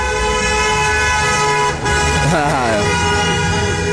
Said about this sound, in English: That must be Greg. I can always tell Greg's truck.